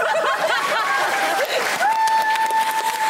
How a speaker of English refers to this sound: Hey, clap if you had a good time.